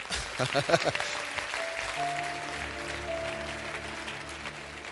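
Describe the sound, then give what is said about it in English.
An audience claps together in a dense, steady wash that runs the whole way through, with a few sharper claps at the start and sustained musical tones rising underneath after a second or so. “You need to clap well there.”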